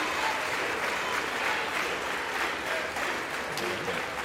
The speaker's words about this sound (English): House representatives on their feet. It appears most Democrats and Republicans are on their feet, giving the new Speaker a round of applause.